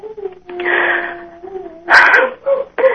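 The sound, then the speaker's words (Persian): A dog whines in a drawn-out, high tone, then lets out three sharp, loud barks in quick succession near the end. “بعد این سگ توی عزیز؟”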